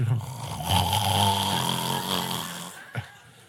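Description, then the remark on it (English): A person mimics a loud, drawn-out snore, one long rasping inhale lasting a couple of seconds, followed by a short sharp snort or click near the end. “But when it comes to opening up the Word of God, in the first few minutes, we fall asleep.”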